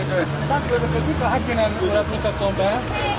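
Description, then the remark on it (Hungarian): Steady city road traffic on Váci út in Budapest, Hungary, with a low engine rumble and continuous roadside noise, as drivers are stopped for breath tests by a former Formula 1 world champion; indistinct voices murmur throughout. “Leesett az álluk az autósoknak, amikor az egykori Forma 1-es világbajnok szondáztatta őket a Váci úton.”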